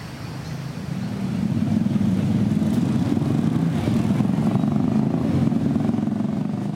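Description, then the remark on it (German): A mototaxi's engine drones with a steady, low rumble as it travels to Morales. The rumble swells in the first second or so, then holds an even, buzzing pitch throughout, with no voices. “Das Mototaxi bringt mich nach Morales mit seinen Bars und Clubs.”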